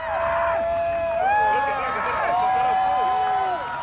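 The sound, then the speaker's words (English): A crowd of many voices yells, screams and cries continuously during the four minutes of totality of a total solar eclipse, high wavering shouts and whoops overlapping in a loud, steady roar of excitement that never lets up. “And I mean, it was like for the whole 4 minutes of totality, continuous yelling, continuous screaming, continuous crying.”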